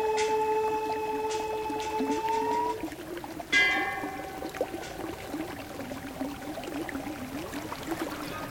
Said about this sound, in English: This stream comes from a glacier on the east side of the mountain. From here, the water runs down the canyon into Lake Mansarovar.